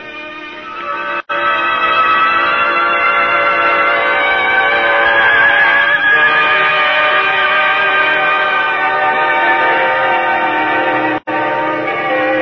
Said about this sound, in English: Bells ring tribute to Pennsylvania movie star. Bells. Dying wish of Hollywood star fulfilled.